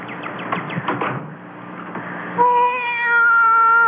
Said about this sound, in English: Be quiet, cat. I want to think.